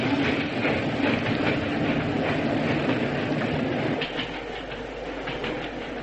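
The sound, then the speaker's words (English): A moving train on the British railway system, carrying Holmes and Watson, rumbles steadily along the tracks with a dense, continuous roar and faint rhythmic clatter of wheels, loud, easing slightly toward the end. “Stop the train, I say!”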